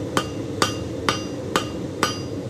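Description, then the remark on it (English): A blacksmith's hammer rings out on an anvil in six steady, evenly spaced blows on hot metal, shaping a scroll, each a sharp metallic clang with a brief ring, fairly loud over a low background hum. “Back at the anvil, the scroll is taking shape.”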